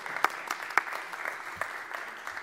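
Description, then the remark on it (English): A crowd applauds steadily, a dense wash of many hands clapping with a few sharper individual claps standing out at a moderate level. “Okay, I thought maybe that was him applauding.”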